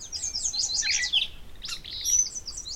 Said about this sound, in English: The Dawn Chorus, recorded at Iowa's Kettle Hole State Preserve at that transition in time when the night ends and the sun begins to rise. It starts slowly, builds subtly, and then breaks into full symphonic splendor just as day fully breaks.